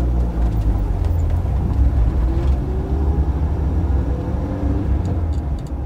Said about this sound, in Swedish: Bilen rivstartar och de kör ut från parkeringen.